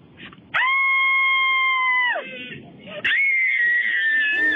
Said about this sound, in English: And this is our cabin fever scream.